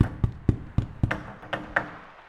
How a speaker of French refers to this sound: Je n'avais même pas le temps de réagir que le loquet se ferma violemment, m'enfermant dans le grenier. J'eus beau tambouriner de toutes mes forces, impossible de rouvrir la porte.